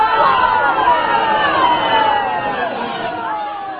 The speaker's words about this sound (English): Republican Congressman Bob Inglis, who held a town hall forum yesterday, the 6th of August. At first, what you hear will be a crowd that's mostly happy, but then they're going to turn on him.